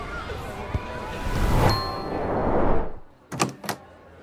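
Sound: school bell ringing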